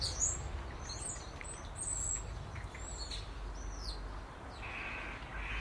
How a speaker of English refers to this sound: Crows fight with magpies. Magpies fight with crows. So we've got aerial acrobatics. These birds toing and froing to each other.